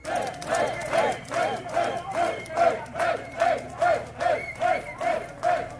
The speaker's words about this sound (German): Soweit die Eindrücke von der Wegstrecke vom Protesttag in der Bielefelder Innenstadt.